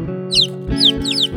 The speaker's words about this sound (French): Non mais ça va pas, espèce de satané poussin.